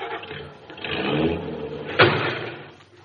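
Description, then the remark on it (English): A car engine revs and accelerates, then a single loud, sharp crunch of impact as the car's bumper hits the fender of a parked car, followed by the engine rumbling on. No one speaks. “I hope George didn't hear the crash.”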